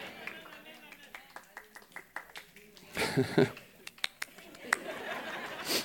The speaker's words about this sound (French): Allez, on applaudit pour de vrai le Seigneur.